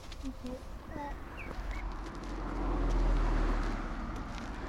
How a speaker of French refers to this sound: Il y a pas mal de circulation en fait ici. Et ils roulent assez vite.